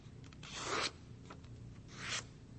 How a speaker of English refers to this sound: Now, I take a sheet of paper and I fold it as such. I crease it this way.